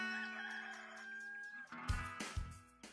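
A chicken lets out a long, drawn-out call, then gives three sharp, loud clucks in quick succession, with no one talking.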